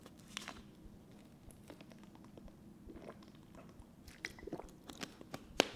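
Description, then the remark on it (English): Quiet sipping of water by a poker player during a tournament: a scatter of soft wet mouth clicks and small gulps over a low hum, with one sharper click near the end. No one speaks. “Okay, let me take a sip of water and tell you about this hand.”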